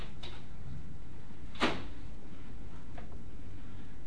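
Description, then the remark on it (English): A door is opened with one sharp click-and-thump of the latch, with a couple of faint knocks before and after against a steady, low hum. No one speaks. “Look at this door. How does it open?”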